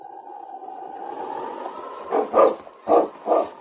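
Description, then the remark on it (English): Sergeant Preston's sled team of huskies, led by the lead dog King, barks in four sharp bursts, coming in quick succession after a steady, drawn-out whining tone that fills the first half. “It was 2 days later when the mighty lead dog King set the pace for Sergeant Preston's team of huskies.”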